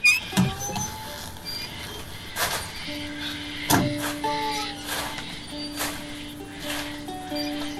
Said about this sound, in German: Und ja, aber jetzt haben wir hier das Windrad, das quietscht wunderbar vor sich hin.